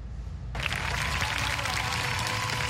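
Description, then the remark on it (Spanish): A large crowd of students in Venezuela breaks into sustained applause, a minute of applause honoring young Venezuelans killed during opposition protests. It begins abruptly after a half-second of low rumble and continues as a dense, steady wash of clapping with no voices standing out. “Con un minuto de aplausos en honor a los jóvenes venezolanos caídos durante las manifestaciones opositoras realizadas durante los últimos días, miles de estudiantes realizaron asambleas de manera simultánea en todas las casas de estudio del país”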